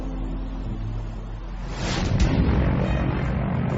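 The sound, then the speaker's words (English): A propeller airplane, the 215, drones steadily in flight over British Columbia as it closes in on Vancouver, picking up a little ice; a continuous low engine rumble mixed with rushing wind noise that swells louder about halfway through. No one speaks. “In the skies over British Columbia, the 215 is closing in on Vancouver.”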